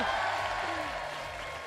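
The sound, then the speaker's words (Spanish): An audience at a quiz contest claps after the first round ends in a 4-point tie between the two competing centres, a steady, dense, continuous burst of applause lasting under two seconds, with a faint murmur of voices underneath. “Y un aplauso del público.”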